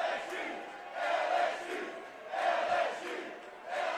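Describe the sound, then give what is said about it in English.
A large crowd at the Hyatt cheers and roars continuously for former Tigers players taking a curtain call and victory lap, swelling in waves every second or so, with bursts of shouting rising above the steady wash of noise; no one speaks clearly. “Yeah, that's the former Tigers that are sort of taking a curt call, a victory lap, whatever you will, and they've been recognized here at the Hyatt.”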